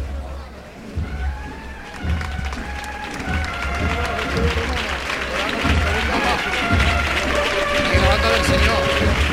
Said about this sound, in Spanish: Se aplaude también la llegada de esta banda, tan personal como la centuria.